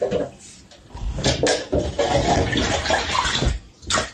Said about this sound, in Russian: Также действуют жители Якутска, где в микрорайоне Кирзавод из кранов течет коричневая вода.